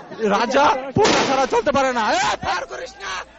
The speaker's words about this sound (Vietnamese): Các nhận định của binh sĩ này bị gián đoạn bởi tiếng súng nổ và anh ta đã hét lên với các bạn đồng đội bảo họ ngưng bắn.